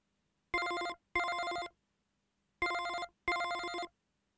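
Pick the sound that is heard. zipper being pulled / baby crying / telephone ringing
telephone ringing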